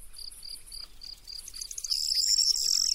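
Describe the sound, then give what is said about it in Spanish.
Outdoors in rye fields near Pedraza, Segovia, in Castile, Spain, a common quail's steady run of high, evenly spaced chirps gives way to a corn bunting's bright, jangling song rising loud, with no one speaking. “Pero esta codorniz está cantando en los campos de Castilla, junto a Pedraza en Segovia, en una centenera.”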